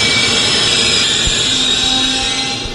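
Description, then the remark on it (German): An ICE train grinds to an emergency stop, with a loud, sustained roar of rushing noise and high metallic brake squeal that eases slightly as it comes to a halt. “Der Zug hält, dank einer Notbremsung.”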